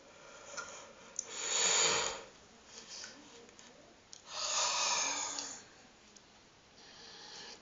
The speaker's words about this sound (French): Et je vais tout d'abord respirer profondément, autant de fois que je le jugerai nécessaire, et même bâiller si j'en éprouve le besoin.